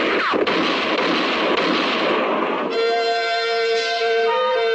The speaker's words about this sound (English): For about 5 seconds, the moonlit clearing thundered to the sound of gunfire. And then it was all over.